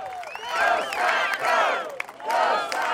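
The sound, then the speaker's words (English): A large, hot, sweaty outdoor crowd at a rally where Romney spoke cheers and shouts in swelling waves as an airplane with a "Go Scott Go" banner flies overhead, many voices whooping and yelling together, loud and continuous across the whole stretch. “An airplane with the banner "Go Scott Go" flew overhead, and the hot, sweaty crowd broke into cheers.”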